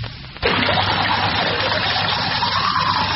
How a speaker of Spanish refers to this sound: Cuando te laves los dientes, pilas con el agua. No dejes la llave abierta cuando te estés cepillando. ¿No te das cuenta de todo el agua que desperdicias?